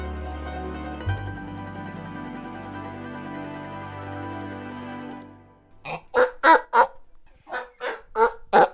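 A donkey brays in a run of harsh, rhythmic honking bursts, about eight pulses, loud and rasping, following several seconds of a steady, low humming drone.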